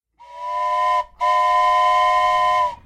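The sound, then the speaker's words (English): A loud, steady train whistle sounds twice as the train goes over a bridge, a shorter blast followed after a brief pause by a longer one, with a full chord-like tone and no talking. “The train is going over the bridge.”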